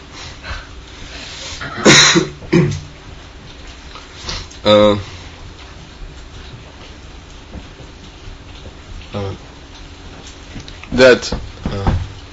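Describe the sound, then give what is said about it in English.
Several sharp, loud coughs come in short bursts, a pair close together early on, another midway and a final cough near the end, over a low steady background hum. “My coughing is not from the window.”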